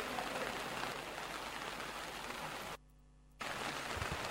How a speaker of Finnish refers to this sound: Ja sade sen kun yltyy vaan